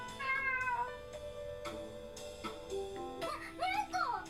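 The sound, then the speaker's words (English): A cat meows twice, a drawn-out mew near the start and a rising, wavering cry at the end, both clear and close over a steady background of tonal music. “It's a kitty cat!”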